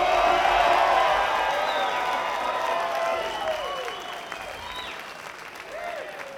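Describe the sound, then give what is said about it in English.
A crowd at a band's show breaks into sustained applause for Slim Pickens, a dense wash of clapping mixed with scattered cheers and whoops that stays loud before gradually tapering off. “Well, we're glad to be back, and right off the bat, how about a nice round of applause for Slim Pickens, ladies and gentlemen.”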